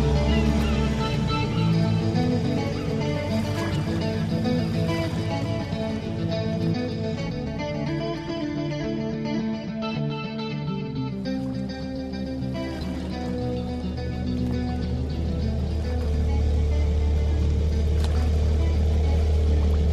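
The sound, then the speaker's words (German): A boat engine drones steadily throughout, a loud, continuous low rumble with a slight dip in intensity midway before returning to full strength; no one speaks. “Steigt ins Boot.”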